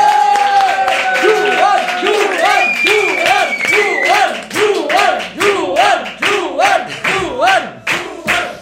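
Loud, sustained applause from a large audience, dense clapping filling the room, with cheers and whoops rising and falling over it throughout.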